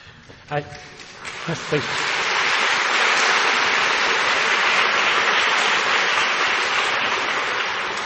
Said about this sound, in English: thank tonight's guest lecturer formally, and save some more of your applause.